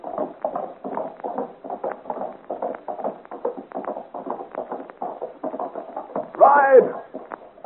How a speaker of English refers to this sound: pulls roughly at the horse's bridle and, shouting encouragement to her, gallops out into the darkness of the forest.